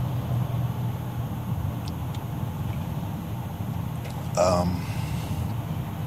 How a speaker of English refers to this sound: I imagine eventually this thing will just blow up. Good old V6 power here, Honda power.